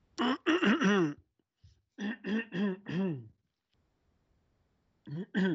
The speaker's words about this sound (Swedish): Jag harklar mig lite.